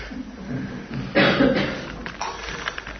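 A single short sniff, a brief breathy rush of air through the nose, heard alone over a low, steady background hum with no talking.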